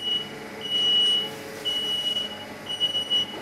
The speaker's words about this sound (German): Also wenn das so piept, dann sagt mir die Maschine, dass das Eis fertig ist.